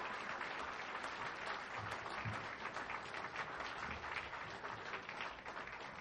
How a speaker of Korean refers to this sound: 네, 다시 한번 감사의 찬양을 불러주신 우리 육교구에게 큰 박수로 부탁드립니다.